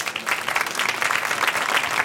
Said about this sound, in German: in den kommenden 20 Minuten mit meinem Gast zu empfangen mit einem warmen Applaus, Frank Schätzing.